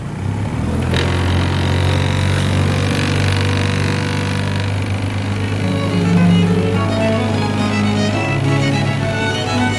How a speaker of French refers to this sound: On arrive devant la maison de Cavalli, il y a un peu de trafic. Actuellement, le canal qui passe donc devant la maison est un des canaux les plus fréquentés à Venise parce que c'est le meilleur moyen de rejoindre Piazzale Roma